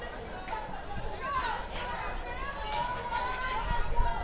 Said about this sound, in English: And noisy crowd out there.